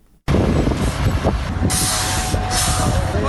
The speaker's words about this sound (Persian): اینجا ماشین های غول‌پیکر در حال کار هستند. چهره مرکز شهر چاریکار در حال تغییر است.